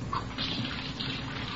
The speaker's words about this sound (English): We found her in the kitchen washing dishes.